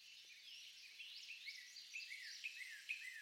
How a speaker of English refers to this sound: A feeling of anticipation fills the room as the audience waits in their seats. Soft sounds of birdsong begin to fill the room.